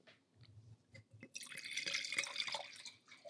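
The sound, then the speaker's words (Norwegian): Grand Cru wine is poured into a glass: a few soft drips first, then a steady bright splashing pour that gurgles and rises slightly in pitch as the glass fills, with no talking. “Heller i glasset, vakre lyder.”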